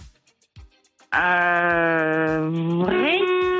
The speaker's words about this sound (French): Ah ouais, mais vrai, t'as klaxonné deux fois. Alors, tu dis pas vrai faux, tu klaxonnes. Nous, c'est le klaxon qu'on entend.